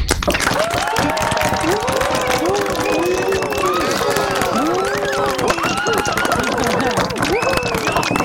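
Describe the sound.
People at the end of a Barcamp event clap for themselves steadily for several seconds, dense and continuous, with many voices calling out and chattering over the applause.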